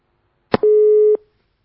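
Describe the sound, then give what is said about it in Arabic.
A click is followed by a steady, loud telephone busy tone lasting about half a second as a caller's line is cut off during a television call-in, ending with another click. The line then goes silent, with no voices. “خط قطع.”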